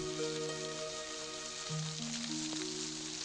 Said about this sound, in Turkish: Bu yağmurda kimse dışarıya çıkamaz.